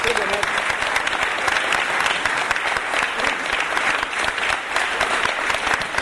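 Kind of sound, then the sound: crowd, audience applauding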